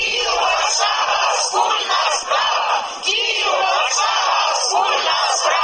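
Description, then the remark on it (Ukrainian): A large crowd of over 1,000 Ukrainians and Poles marching on a Sunday through the main squares and streets of Warsaw in solidarity with Kyiv's Euromaidan shouts slogans in unison, loud and continuous, with rhythmic surges of many voices chanting together over a constant roar of the gathering. “Такі вигуки лунали в неділю на головних площах і вулицях Варшави.”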